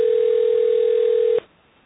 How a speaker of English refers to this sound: Do other people hear the phone ringing? I can hear it